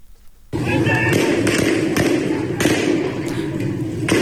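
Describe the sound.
Several sharp gunshot-like bangs ring out at irregular intervals over a dense, noisy crowd of protesters shouting slogans outdoors in Behbahan, the cracks fairly loud and spaced about half a second to a second apart.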